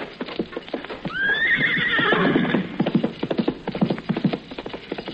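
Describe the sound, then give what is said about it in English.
A fresh horse, readied for a mounted messenger at a relay post station, lets out a loud, wavering whinny lasting over a second, while rapid hooves clip-clop steadily before and after it. “A fresh horse! A fresh horse! The horse is ready!”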